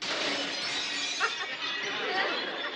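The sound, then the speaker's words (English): A waitress breaking dishes in a kitchen: a sustained, bright crash of shattering crockery and glass, with a sharper smash partway through, lasting nearly three seconds at steady loudness. “She done broke all the dishes.”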